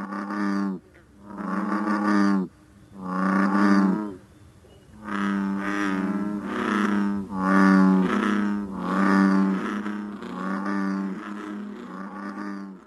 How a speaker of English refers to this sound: Some frogs, you may go to a large body of water and hear one or two bullfrogs.